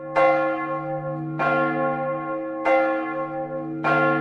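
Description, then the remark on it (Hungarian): Church bells ring out for the second time as people gather for midnight mass, in four slow, evenly spaced strokes, each bright clang lingering in a long humming decay before the next. No voices, just the resonant bells. “A templom harangjai másodjára szólaltak meg.”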